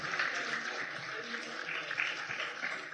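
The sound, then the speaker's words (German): Steady applause from an audience for an audience member who named the game Wett, a dense, continuous patter of clapping at moderate volume with no clear pauses, lasting the whole stretch with no voices standing out. “Das Wett, ja, der hat einen Applaus verdient, genau.”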